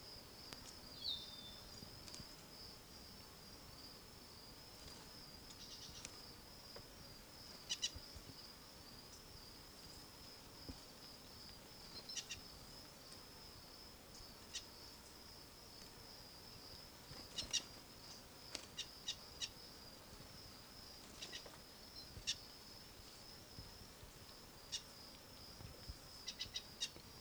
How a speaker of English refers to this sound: Wild bird call.